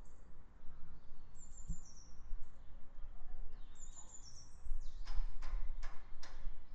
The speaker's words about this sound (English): And if anyone wants to tell me what any of the birds are, feel free. I always like to learn about birds.